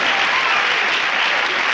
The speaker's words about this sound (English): Clap, clap, please, please.